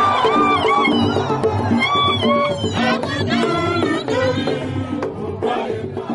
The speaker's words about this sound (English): The referee from Eastern Lake State calls the match a win for the Terekeka State wrestler, prompting loud cheers and applause from the Terekeka side.